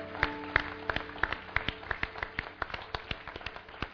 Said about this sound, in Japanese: Amen. Give the Lord a big clap. 拍手を送りましょう。